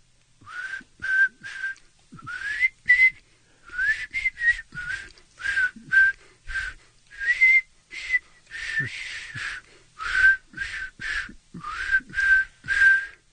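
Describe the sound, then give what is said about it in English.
A person whistles a tune in short, bright phrases with brief pauses between notes, clear, no talking, steady rhythm across the whole stretch. “What song are you actually whistling?”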